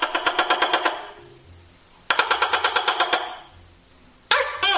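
A lizard's call: rapid bursts of sharp, rattling clicks, about ten per burst, repeated with short pauses between them, fairly loud with no talking.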